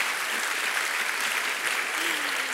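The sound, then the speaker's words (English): An audience during a sermon claps for women, steadily and continuously, a dense wash of many hands at a fairly loud, even level, with a faint voice murmuring briefly underneath near the end. “So yes, you can clap for those women.”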